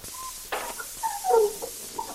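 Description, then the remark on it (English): A heavy tomb door creaks open with high, squealing hinge groans that rise and waver, punctuated by a brief scraping burst, moderately loud and with no voices. “Oh, why must all tomb doors sound that way?”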